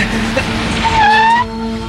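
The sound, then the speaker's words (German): A car approaches and its tyres screech in a rising, sustained squeal lasting about half a second before cutting off, loud, over a steady engine hum. “Vorsicht! Ein Auto runter!”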